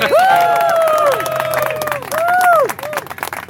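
A crowd of fans, partners, friends, sponsors and family cheers and claps loudly at a runner's finish-line arrival in New York City on 4 November 2023, with rising and falling whoops and shouts riding over dense, steady applause throughout.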